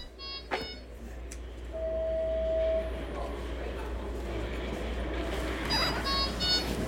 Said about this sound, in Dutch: Toen zei hij, ja, ik weet nog niet helemaal hoe het werkt dit. Maar nu krijg je een improvisatie van mij op dat piepgeluid van het infuus.